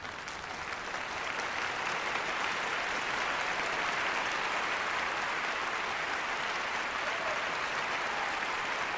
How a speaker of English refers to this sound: Let me give Dawood another standing applause.